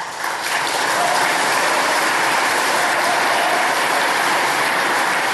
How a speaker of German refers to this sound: Hier gab es wieder tosenden Applaus. Man konnte merken, die Versammelten beim grünen Neujahrsempfang waren dafür, ein Verbotsverfahren gegen die AfD einzuleiten.